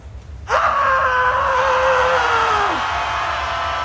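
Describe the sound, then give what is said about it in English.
A large crowd suddenly erupts into loud, sustained screaming, with one piercing voice held high above the roar for a couple of seconds before the crowd noise carries on. “I want to hear you scream.”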